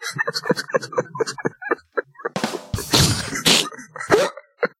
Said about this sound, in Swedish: Det lät som att man välte några burkar. Typ.